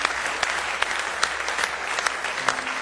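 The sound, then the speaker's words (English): A church audience applauds in praise during a morning service, many hands clapping together in a dense, continuous patter with a few sharper claps standing out, without any speech. “Give him one more good hand clap of praise if you love him this morning with all your heart.”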